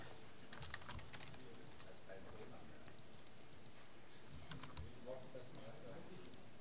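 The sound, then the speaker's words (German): A printer starts up to print, giving off a run of irregular mechanical clicks and faint whirring, while voices murmur in the background. “Er braucht Zeit einfach, genau. Passiert was.”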